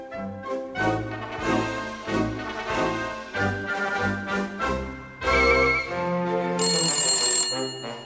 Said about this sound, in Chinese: 突然传来了电话的声音，一定是尼古拉打来的。